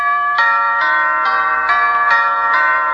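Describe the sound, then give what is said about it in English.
A bright bell chime rings out six times in a steady, even rhythm, each ding-dong strike ringing on and overlapping the next, loud with no voices. “Bell started ringing like ding-dong-a-ding.”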